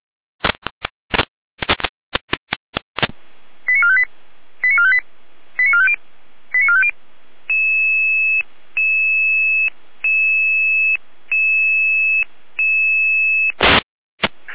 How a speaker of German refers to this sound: Hilfeleistung für Einsatz ABC. Hier eine Alarmierung.